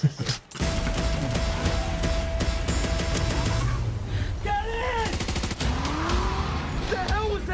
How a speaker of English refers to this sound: That's only exactly what we're seeing on screen. There's your explosion.